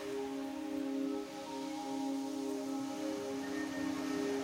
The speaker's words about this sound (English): The sound of the palm trees as they move.